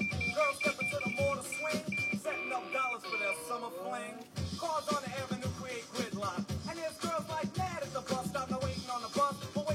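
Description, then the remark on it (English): A car horn beeps repeatedly in short bursts amid dense, noisy street traffic, with indistinct voices mixed into the busy background. “these fucking cars. Yep, yeah, no, beep it up, man.”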